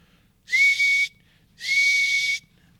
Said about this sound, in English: Then he nodded to Gribble. The rat blew two sharp blasts upon a bone whistle.